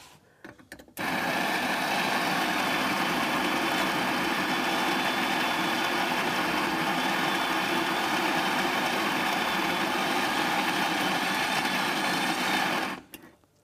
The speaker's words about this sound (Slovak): Relatívne tichý ten mlynček. Prosím? Relatívne tichý ten mlynček. Väčšinou tak strašne škriekajú tie mlynčeky.